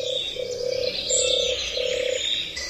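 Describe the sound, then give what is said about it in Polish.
A European turtle dove gives a low, purring coo that repeats in about four rolling phrases, steady and moderately loud, over a background hiss of insects or birds. “To mniej więcej jakbyśmy to spotęgowali trochę głośniej, to właśnie mniej więcej podobnie odzywa się turkawka.”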